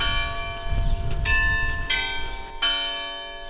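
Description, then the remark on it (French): The church bell of Ciré-sur-Blaise tolls three strokes for 3 o'clock, about two-thirds of a second apart, each bright metallic clang ringing on and overlapping the next, over a low rumble of background noise. “Le clocher sonne. Il est 3h.”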